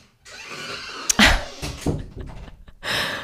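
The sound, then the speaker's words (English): A door opens with a sharp thunk and a creaking, rattling sweep as a man comes in, followed by softer shuffling and another brief knock before a broad rushing noise swells. “He just came in the door.”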